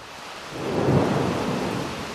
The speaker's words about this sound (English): In front of one of Mullins' last two remaining tobacco warehouses, a downpour has started.